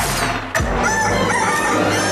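A rooster crows loudly, a long, strained, raspy call that fills the whole moment, with a brief thump near the start and no talking; it is the rooster sound of the radio station Radio Activa.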